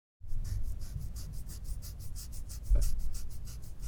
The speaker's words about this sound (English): Kids scratching their dermis way too hard.